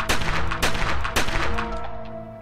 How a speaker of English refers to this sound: Prosecutors believe Katie went into the bedroom, took her husband's 9mm pistol from the lockbox, then fired four shots into his head at close range.